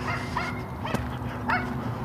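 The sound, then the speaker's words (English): Two dogs, a little tiny dog and a large black Labrador-like dog, bark a few times in short, separate bursts, a mix of higher yappy barks and deeper ones, against a steady low background hum with no talking. “It's a little tiny dog.”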